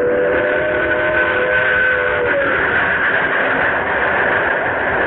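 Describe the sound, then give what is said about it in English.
The 11:55 train rumbles in on time with a steady, loud roar as a sustained whistle sounds in steady tones, the whistle fading after a couple of seconds while the heavy rolling noise continues. “Here's the 11:55 now.”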